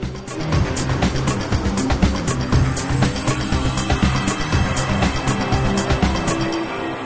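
A loud, steady roar of MotoGP race motorcycles at the start of the final round of the MotoGP World Championship in Mediterranean sunshine, Lorenzo starting from pole, layered high-revving engine whines rising and shifting in pitch, punctuated by rapid crackling bursts as the bikes accelerate together.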